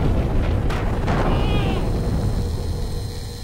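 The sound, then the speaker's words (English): Booming sci-fi energy blasts and explosions fill the scene, with sharp zapping bursts near the start over a dense, continuous rumble that slowly fades. “In classic 80s breakdancing style, the captain backspins himself around to codpiece blast not one, but a second bigot zombie as well.”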